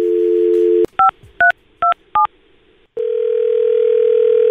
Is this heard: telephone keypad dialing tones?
yes